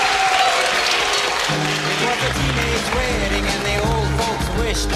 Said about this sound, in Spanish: Un aplauso. Está para nuestros primeros concursantes.